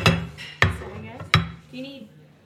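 Three sharp clinks of plates and silverware being placed on a hard table, spaced unevenly, with faint murmuring voices in the background.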